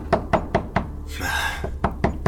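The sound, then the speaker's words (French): Heavy, rapid pounding on a door: four quick thuds, a brief pause filled with a rough rushing noise, then four more hard blows in the same steady rhythm. “Et les booms sur la porte continuent. Sans cesse. Toujours plus fort sur ces quelques secondes de réflexion et de panique.”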